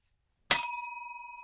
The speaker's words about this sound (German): Vielleicht stellen wir mal die Glocken weg. Okay, wir lassen das mit der Glocke jetzt erst noch. Nein, lass sie bitte da. Ich finde die gut.